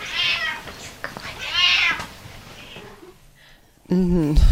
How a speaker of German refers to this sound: Und Pepper meinte, sich auch mal zu Wort melden zu müssen. Ganz normaler Alltag mit gesprächigen und hungrigen Katzen.